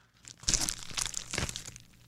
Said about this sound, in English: Okay, so it is sandwich time, audience. Now, does this make a crunch too? Let's see. All right, well, let's find out. I should say, let's hear.